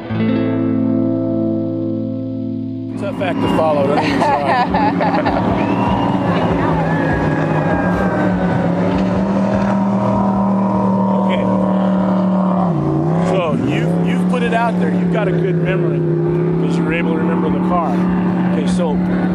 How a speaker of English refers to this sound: We'll let these boats go by.